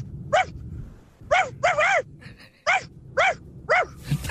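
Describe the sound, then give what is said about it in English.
A person imitates a small, angry dog with a run of about six sharp, high yapping barks, loud, in uneven bursts with a faint low rumble beneath. “That's quite convincing as a little angry dog”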